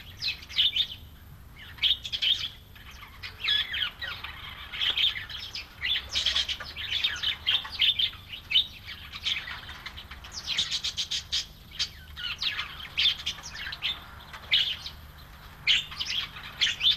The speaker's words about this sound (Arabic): من بين الطيور الأسترالية توجد فصيلة الببغاء مثل أروزيلا، غلاس والكوكاتوس، وهي طيور جميلة الألوان لكنها مزعجة.